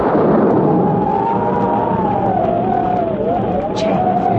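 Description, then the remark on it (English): Thunder of an approaching storm rolls as a loud, steady rumbling roar that fills the whole stretch without letting up, with a faint wavering whistle riding above it. “Would that possibly be thunder? It sure sounds like a storm coming up,”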